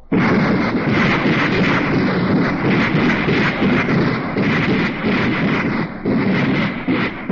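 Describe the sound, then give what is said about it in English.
New anti-tank rockets fire at a weapons demonstration in a loud, continuous barrage: a dense, rumbling roar of blasts that hardly lets up for several seconds, with no voices. “Then the president, the chief of staff, and all the reporters were urged to hold their ears for the new anti-tank rockets.”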